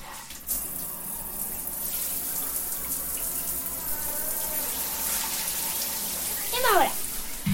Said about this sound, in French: La petite douche. Ça, c'est le sol de la douche. Voilà, nous allons avoir l'eau de la douche.